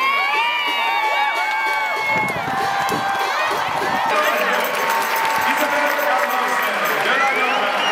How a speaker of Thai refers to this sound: เสียงเชียร์ของกองเชียร์ชาวไทยโดยเฉพาะในช่วงที่โกของไทยวราพรบุญสิงห์สามารถเซฟลูกจุดโทษของนอร์เวย์ได้ในนาทีที่75ซึ่งกองเชียร์ไทยส่งเสียงเชียร์ดังสนั่นอัศจรรย์ดังยิ่งกว่าตอนที่นอร์เวย์ทำประตูได้สิครับ